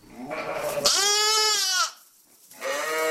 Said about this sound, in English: That's the sound of baby lambs with their moms. Oh, so sweet. Oh. Our listener, Paul, recorded the lambs and their mothers. He was working on a sheep farm in the Skagit Valley.